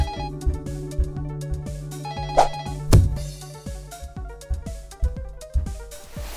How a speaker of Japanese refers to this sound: 電話、ああ仕事場からかな。うるさいな。